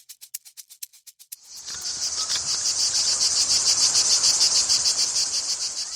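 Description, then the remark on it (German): Cicadas sing loudly: first a series of sharp rhythmic pulses, then a dense, continuous buzzing drone that swells and throbs steadily with no voices present. “kommen wir noch einmal zurück zum Anfang, zurück zu den Zikaden.”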